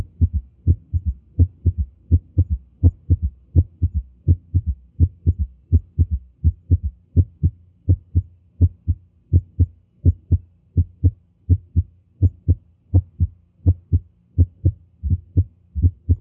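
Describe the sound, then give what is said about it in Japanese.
Heart sounds heard through a stethoscope, with first, second and an extra third heart sound after each beat, forming a steady, galloping triple rhythm of low thuds, clear with no talking. “1音、2音、そして3音が聞こえています。”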